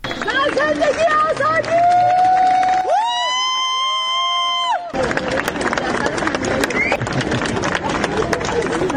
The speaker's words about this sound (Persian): بر اساس ویدیوهای منتشر شده در شبکه‌های اجتماعی، جعفر پناهی 2 روز پس از دریافت جایزه نخل طلای جشنواره فیلم کن بامداد امروز وارد فرودگاه تهران شد و مورد تشویق مردم حاضر در آنجا قرار گرفت.